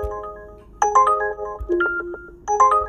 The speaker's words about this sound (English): Look at that, my phone blowing up like constant.